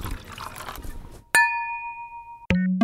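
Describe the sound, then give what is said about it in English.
Glasses clink together in a toast, one bright strike whose ringing tone hangs for about a second, then a second quick clink followed by a gurgling, rising pour of liquid, fairly loud. “Hey, if that's what it takes to get us on stage again for a live event someday in the future, I'll drink to that.”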